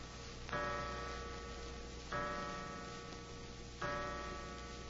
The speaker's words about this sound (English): Suddenly, a clock chimed the hour, an hour that now seemed foreboding, sinister.